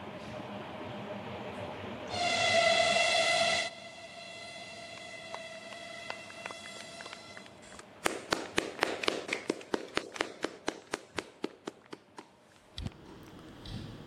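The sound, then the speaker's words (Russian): A train approaching the portal of the second Baikal tunnel sounds a loud, sustained horn blast that lingers, then wheels clatter over rail joints in a quick, steady series of sharp clicks that gradually thin out. No one speaks. “Владимир Владимирович, поезд приближается к порталу.”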